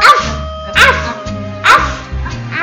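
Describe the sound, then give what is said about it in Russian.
A small dog yaps several times, sharp high-pitched barks spaced roughly a second apart, fairly loud over soft background music. “Как добрая и прилежная собачка.”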